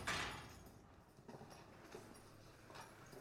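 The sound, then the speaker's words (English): A heavy prison cell door clanks shut, followed by a few sharp metallic clicks and knocks as an officer locks it, in an otherwise quiet space. “Gentry keeps his eyes on Eric as he locks up.”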